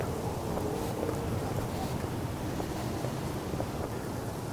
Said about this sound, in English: Wind is just ridiculous right now. Hope nobody's flying those little Cessnas today over at the airport nearby, because it would be dangerous. I don't know what the wind speed is, but it's got to be up there in these gusts.